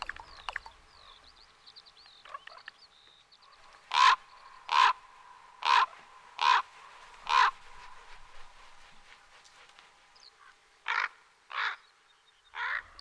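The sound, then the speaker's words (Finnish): A common raven calls loudly: five harsh, evenly spaced croaks, a pause, then three more, over faint background birdsong with no talking. “Korppi on viisas lintu, niin kuin varislinnut yleensäkin.”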